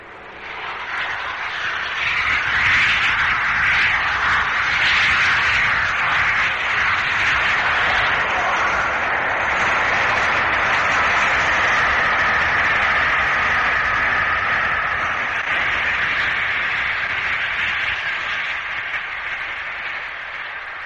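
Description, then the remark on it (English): The Flying Scotsman steam locomotive races past near St Neots at 92 miles an hour in August 1964, on a run between King's Cross and York, a loud, sustained rushing roar with a rapid blurred beat that holds steady for about twenty seconds, with no voices. “August 1964, before the 80 mile an hour limit had been applied to Flying Scotsman due to her age, a fairly high speed run was made between King's Cross and York, and the sound you hear now is Flying Scotsman near St Neots running at 92 miles an hour.”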